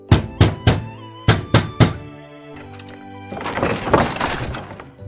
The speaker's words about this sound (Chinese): 又过了几日，商人跑到农民家门口，砰砰砰地敲门。